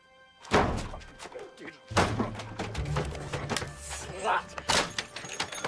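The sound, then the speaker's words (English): A man paces up to a car and kicks its body in frustration, landing a couple of heavy, hollow metallic thunks, followed by rattling and scraping, then another sharp knock a few seconds later. “He paces up to the car and kicks it frustratedly.”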